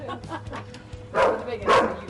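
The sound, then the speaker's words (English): A dog at a house barks twice, loud, the two sharp barks about half a second apart, following a stretch of quieter, muffled background noise. “This dog doesn't attack me.”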